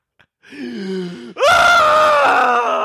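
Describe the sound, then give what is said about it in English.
A voice mimics a scream of terror: a low, wavering moan that suddenly breaks into a loud, sustained, high-pitched shriek lasting to the end, alone with no talking. “Or just screams of terror, like if a character like fools someone else, and then everyone's like, like.”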